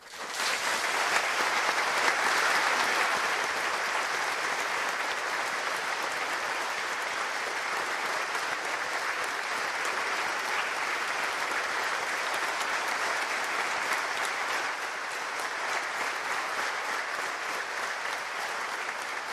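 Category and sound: crowd, pilgrims applauding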